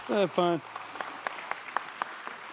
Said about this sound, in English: Hey, is it okay? Can we just like maybe have a round of applause